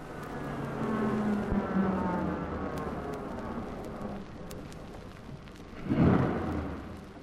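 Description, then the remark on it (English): The engine of Philip's car, the speaker's husband's car, hums and rumbles steadily, its pitch shifting as it drives, then swells into a brief louder rush near the end before settling back down. No one speaks. “That's my husband's car.”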